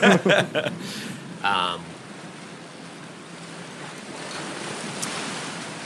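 flowing river water

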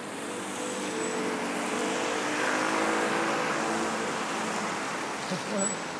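car traffic

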